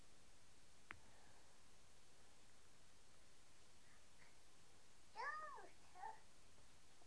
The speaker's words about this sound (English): Yeah, you can hear that dog. Yeah. What's that dog moaning about? Because we're up here and she's not. And she's too stupid to follow us.